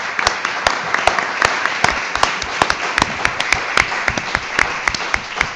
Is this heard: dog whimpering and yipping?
no